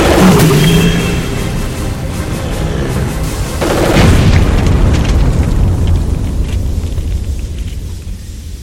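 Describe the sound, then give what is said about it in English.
A pressure tank explodes after being shot: a loud explosive boom bursts out and gives way to a sustained roaring, hissing rush of steam, with a second heavy blast midway before the noise slowly thins out. No voices are heard. “Those pressure tanks could explode!”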